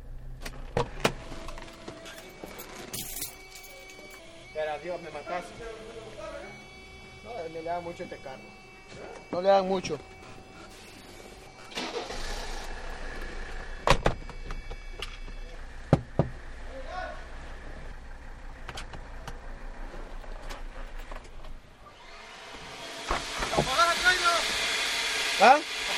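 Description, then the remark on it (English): Inside a car at a car wash: scattered knocks and mechanical clunks, steady machinery hum, then a loud rushing spray of water sweeping over the vehicle near the end, with muffled voices now and then. “I got to pay for the car wash.”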